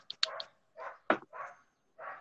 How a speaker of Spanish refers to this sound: Oye, ¿y esos perros, es un ringtone nuevo o sigues la moda de Teams de que se oigan los pinches perros de fondo? Es la moda, güey. Aquí se oyen los perros cada 24 horas.